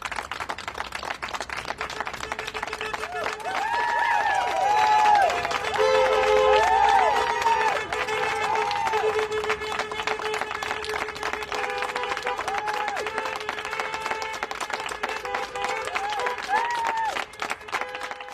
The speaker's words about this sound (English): It was absolutely fantastic. We rounded the corner and here these clapping people, and you just feel everything you've been doing all this stressful day has been so worth it.